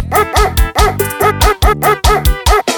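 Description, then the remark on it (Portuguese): A dog barks rapidly and loudly, about eight sharp, tonal barks in a steady rhythm with hardly a pause between them, with no talking. “Eu gostei desse cachorro, eu achei mais fácil do mundo desse cachorro aí.”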